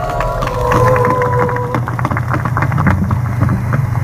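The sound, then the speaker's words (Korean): A large crowd applauds, a dense, steady patter of clapping lasting about four seconds over a low rumbling hum, with a brief sustained tone sounding during the first half. “자, 박수로.”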